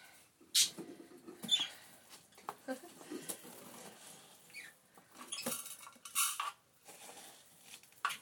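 Light plastic pots being handled and filled with bird seed for budgies: scattered clicks, rustles and soft pattering pours in irregular bursts, fairly quiet overall.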